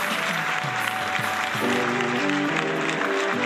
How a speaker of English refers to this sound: He's fun. Big round of applause.